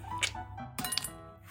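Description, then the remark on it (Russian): Ice being taken out of a freezer: a few bright clinks and rattles of hard pieces knocking together over a steady low hum, no voices. “Сейчас я лед достану.”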